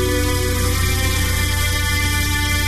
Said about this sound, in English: This isn't ordinary music. Can you hear the hidden low tones in there? This is music from Fizz, the world's most advanced sleep and power nap system.